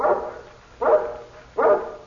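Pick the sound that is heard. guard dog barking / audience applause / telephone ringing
guard dog barking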